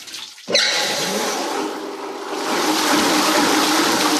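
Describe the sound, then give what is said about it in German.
Water rushes abruptly into a paper pulp machine, where dry cellulose is soaked and kneaded to make paper pulp, after a brief quiet moment, then keeps pouring and churning steadily with a dense hiss, growing slightly fuller toward the end, fairly loud. “Da wird jetzt Wasser zugeführt.”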